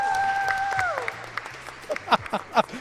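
An audience applauds with dense, steady clapping. A brief gliding electronic tone falls away at the start, and scattered cheers and voices rise over the clapping toward the end.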